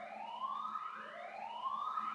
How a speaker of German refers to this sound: Sollte mich das jetzt irgendwie beunruhigen? Nein. Alarmanlagen. Kein Mensch hört auf Alarmanlagen.